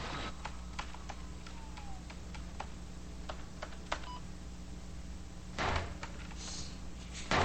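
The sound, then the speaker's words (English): Irregular clicks of Susie typing on a computer keyboard in the New York office at nighttime, fairly crisp, over a steady low electrical hum, with a short burst of louder noise near the end and no voices. “In the New York office, Susie types at her computer.”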